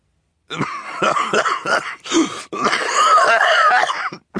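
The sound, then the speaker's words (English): A voice imitates Mr. Poe's coughing fit as he coughs into his white handkerchief while holding a glass of parsley soda, with a run of short, rough, wet coughs, breaking briefly before a longer, strained bout of hacking, with no other voices. “Poe, holding a glass of parsley soda and coughing into his white handkerchief.”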